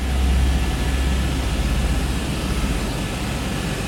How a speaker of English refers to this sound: She flew by helicopter to a remote corner of the country's massive ice sheet.